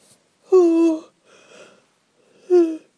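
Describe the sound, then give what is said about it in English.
A person yawns aloud at about 12:40 in the morning, a drawn-out voiced sigh falling in pitch, then a breathy exhale and a shorter second groan. It is fairly loud, with no speech. “Sorry, I'm going to have to start audio booing earlier in the day because I don't mean to yawn, but it just happens like that.”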